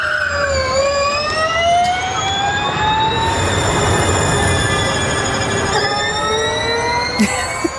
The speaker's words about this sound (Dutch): Ja, de Gen 3 Evo. Nou. Binnen 1,9 seconden van de 0 naar 100. 30% sneller dan een Formule 1-auto, melden ze in het persbericht. Ja, maar 80% saaier. Ja, dat wel. Luister maar.